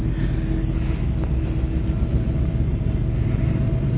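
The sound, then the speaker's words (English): A train passes, making a heavy, steady low rumble that holds at an even loudness throughout, with a dense roar of engine and wheel noise and no voices. “Here comes that train I talked about. Wait till it goes by.”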